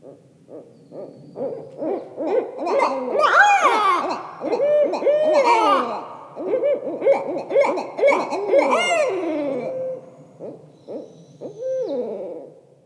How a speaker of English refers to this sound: And next, here's a pair of barred owls caterwauling in a duet. It can be a rather scary sound in the middle of the night.